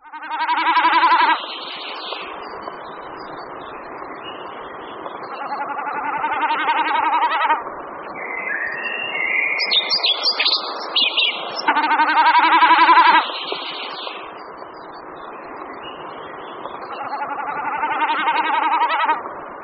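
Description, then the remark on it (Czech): A common snipe, a wading bird, makes its tremulous, bleating, goat-like sound in about four wavering bursts, each a couple of seconds long, with a few higher chirps in between, clear with no voices. “Zvuky, které jsme poslouchali, vydává pták z řádu bahňáků, nazývaný bekasina otavní.”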